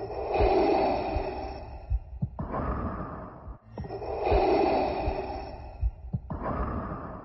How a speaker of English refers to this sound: Trademark number 7741925 is described as the sound of rhythmic mechanical human breathing created by breathing through a scuba tank regulator. Can you guess what that is?